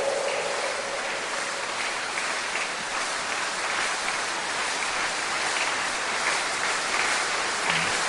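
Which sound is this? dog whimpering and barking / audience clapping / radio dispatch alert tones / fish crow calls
audience clapping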